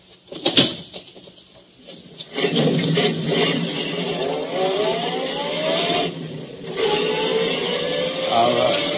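A couple of sharp clicks, then a car engine starts up and revs, pulling away with rising, accelerating pitch that swells twice as it drives off, loud.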